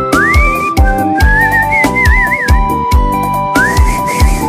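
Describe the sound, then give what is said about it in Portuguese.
A person whistles a song's clear melody, gliding and wavering over the loud song with a steady, thumping beat; no one speaks. “Eu só lembro de assobiar quando eu ouvo ela.”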